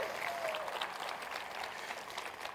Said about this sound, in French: Voulez-vous applaudir celui qui est venu et qui va revenir?